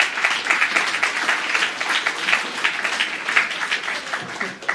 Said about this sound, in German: Ja, genau, Applaus.